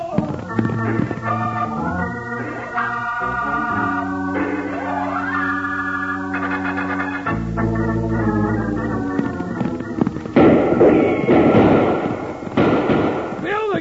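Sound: gunshots fired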